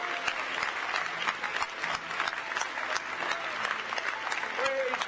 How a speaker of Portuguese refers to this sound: Nós podemos bater palmas e dizer aleluia, porque ele restaurou, ele tem uma igreja restaurada.